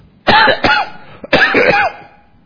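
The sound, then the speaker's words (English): A short fit of harsh, loud coughing: two quick coughs, a brief catch of breath, then a longer rasping cough that trails off. No one speaks. “That is the reason why I keep coughing.”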